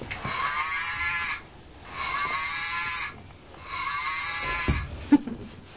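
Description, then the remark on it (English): A toy cow is squeezed in a big hug, letting out three drawn-out, buzzy mechanical moos in a row, each lasting over a second with short pauses between, moderately loud, followed by a small thump. “Yeah, squeeze the cow.”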